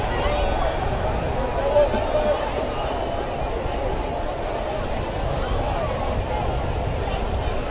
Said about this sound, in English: You can hear the buzz of the crowd, and most of these people will be heading back to the carnival and other points in the area on this gorgeous Saturday evening.